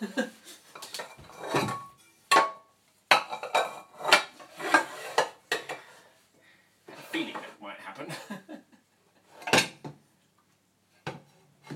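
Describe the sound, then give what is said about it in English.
Metal pots and pans clatter and clank as they tumble out of a kitchen cupboard while someone looks for a pot, a burst of loud, irregular banging, with a person talking in between. “Please don't all fall out of the cupboard. Like that. Whoops.”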